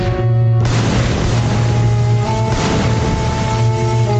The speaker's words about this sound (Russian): В первую секунду Аня ничего не поняла. Она только услышала взрывы и увидела, как стоявший перед ней связист, которому она бинтовала руку, вдруг рванулся от нее, волоча за собой разматывающийся бинт, и со всего маха упал на спину.